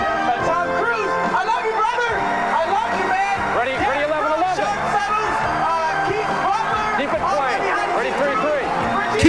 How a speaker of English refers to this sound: Keep the music playing. And the crowd is just starting to go bananas.